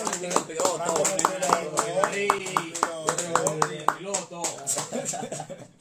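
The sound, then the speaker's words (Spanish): An audience claps in scattered, uneven bursts with sharp, crisp hand strikes to send someone off, while people keep talking loudly over the applause throughout. “Con un aplauso vamos a despedirlo.”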